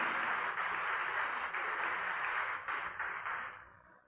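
A crowd applauds steadily, many hands clapping together in a dense, crackling wash that holds for several seconds before tapering off at the end. Nobody speaks.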